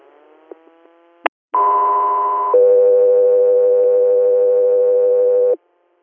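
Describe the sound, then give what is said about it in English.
A brief radio click and squelch, then a loud two-tone dispatch alert: a steady higher tone for about a second, followed by a lower sustained tone for around three seconds, with no voices. “stand by for tones.”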